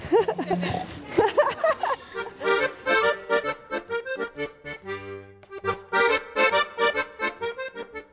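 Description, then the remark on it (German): A pot-bellied pig at a farm's petting zoo grunts, first a rough snuffling burst, then a steady run of short, nasal, rhythmic grunts that keep coming in quick succession. “Und nicht zu vergessen unser Hansi, unser Hängebauchschwein.”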